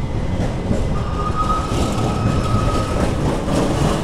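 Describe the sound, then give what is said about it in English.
A B-line streetcar rumbles past on 11th Street in the Pearl District of Portland, Oregon, in April at about 45°F (7°C) and 83% humidity: a steady heavy low roar of wheels on rails with a thin high squeal running through the middle, no voices. “That's the B-line rolling by right now.”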